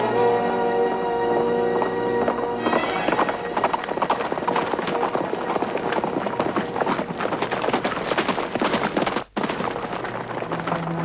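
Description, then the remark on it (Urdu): Horse hooves clip-clop rapidly and steadily in the foreground, a dense running rhythm over a sustained musical backdrop, with a brief dropout near the end. “شاباش میتھیوس، سواری تیار کرو، میں خود وہاں جاؤں.”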